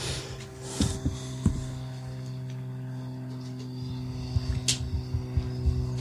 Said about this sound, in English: Whoever's going over in that Cessna right now needs to chill out.